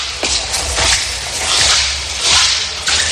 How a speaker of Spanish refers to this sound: Pero esos son mis pasos subiendo la escalera de la radio.